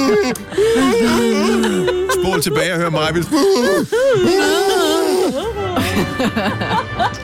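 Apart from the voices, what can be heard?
yawning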